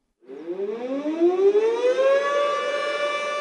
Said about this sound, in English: Air raid sirens howl to remember around 200 people who lost their lives in the most recent earthquake in Lushan. It takes me back 5 years to the first time I heard this noise, following the massive quake that killed around 90,000 people.